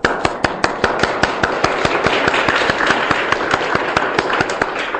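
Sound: audience applause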